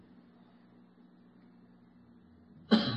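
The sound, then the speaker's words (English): One sharp, loud cough bursts out near the end after a stretch of quiet low hum, with no talking. “I'll be 1,000 feet above Earth and cough.”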